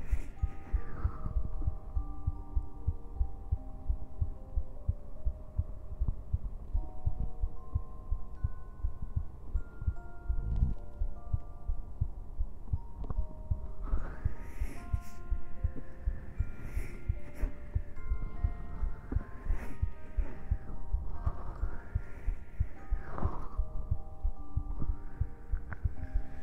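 heartbeat

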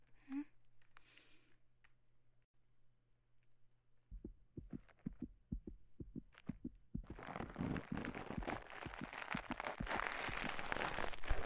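fast heartbeat

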